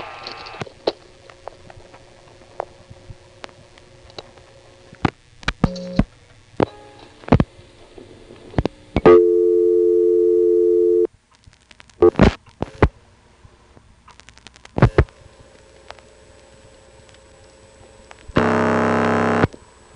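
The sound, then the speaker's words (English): Telephone line paging tones over an open line: sharp clicks, a steady buzzing tone for about two seconds, more clicks, then a harsh, loud tone burst near the end. No voices. “Paging.”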